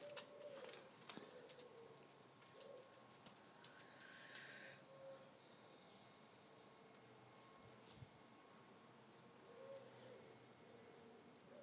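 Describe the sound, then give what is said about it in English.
Birds sing and call outdoors on a chilly morning, with pigeons cooing steadily in the low range and brighter chirps scattered above, all over a continuous ambient hiss; no one speaks. “The birds are in good voice.”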